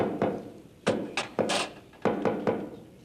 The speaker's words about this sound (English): Oh, that knock is getting so popular, pretty soon it's gonna be in the top 40.